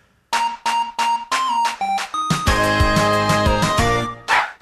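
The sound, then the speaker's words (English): A catchy theme tune plays loud: a run of short, bouncy repeated notes gives way to a fuller, sustained chordal phrase, with no voices. “And this is the final catchy little tune that they came up with.”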